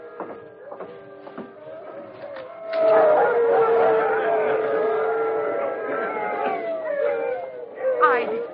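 Sergeant Preston's team of sled dogs, behind the building at Christmas, led by the dog King, howls together in long, wavering, overlapping tones, swelling louder after a quieter start with a few yips, the chorus of rising and falling pitches continuing to the end.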